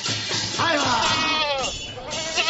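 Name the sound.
goat bleating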